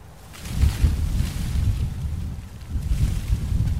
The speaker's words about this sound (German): Kräuter und kleine Büsche wehen hier im Wind. Sie wurzeln in einer Mischung aus Substrat und Erde, die auf der Dachfläche liegt.